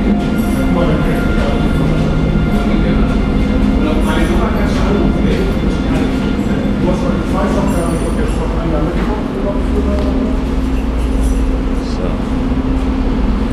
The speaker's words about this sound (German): Diverse Züge. Am Bahnsteig.